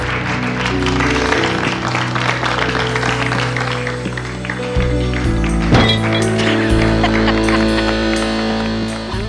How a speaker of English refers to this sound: That's Kyle starting the applause.